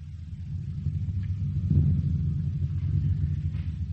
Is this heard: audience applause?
no